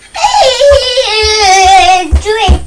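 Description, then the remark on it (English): A juice bottle lets out a single long, reedy whistle as air escapes out of the top, its pitch sliding slowly downward for about two seconds before breaking off into short squeaks, with soft low bumps underneath. “It's whistling. It's the air escaping out of the top.”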